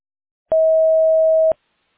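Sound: voicemail tone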